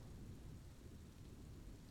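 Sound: rain and thunder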